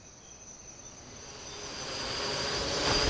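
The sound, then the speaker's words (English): A steady, whirring buzz of flying drones carrying a woman high in the air swells gradually louder, with a thin high-pitched whine layered over broad rushing noise and no voices. “Put me down, you miserable drones!”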